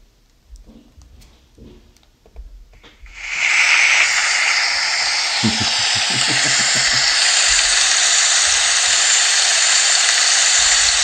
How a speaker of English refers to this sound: I was like, put it in the rain. What is it? Well, it's just raining anyway. Oh, I thought it was like applause at the Canadian Country Music Awards or something before a live performance.